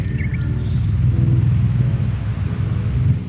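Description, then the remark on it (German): An electric fan, working hard and running from morning to evening, runs with a steady, low droning hum and a constant whir, loud and unbroken throughout, with no voices over it. “Das ist mein Ventilator. Der leistet im Moment Schwerstarbeit.”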